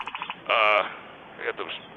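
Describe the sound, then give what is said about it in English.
A frog croaks near a pond at night: a quick run of soft pulses, then one loud, buzzy croak, followed by a couple of quieter calls. “I heard about the frog just when it made that noise.”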